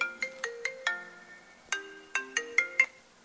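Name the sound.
phone ringtone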